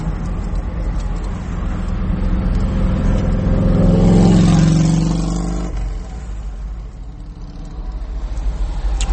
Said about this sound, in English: Riding their motorcycles. Beautiful day to be doing that.